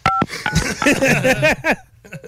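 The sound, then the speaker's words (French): A short, clear touch-tone beep from a phone keypad sounds at the start as a telephone number is dialed, followed by fast, warbling voice-like chatter that fills the rest of the moment. “Maintenant, faisons des coups de téléphone.”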